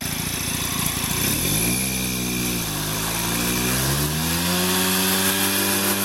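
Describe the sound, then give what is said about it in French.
The engine of a 1971 Peugeot two-stroke moped runs loud, its buzzing pitch climbing and dipping as the throttle is worked, continuous throughout with no voices. “Alors, on dirait une tondeuse à gazon, mais ce n'est pas du tout ça. Non, c'est une mobilette Peugeot de 1971, je crois, ouais, exactement.”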